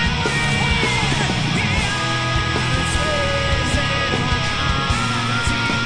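A rock vocalist lets out a raw, sustained scream over loud, dense distorted guitars and pounding drums, the song playing continuously at full volume.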